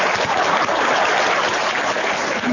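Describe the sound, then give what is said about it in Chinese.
A crowd claps steadily and warmly when a speaker at a talk asks for warm applause, a dense, continuous patter of many hands from start to finish with no voices breaking through. “鼓掌，鼓得热烈的。”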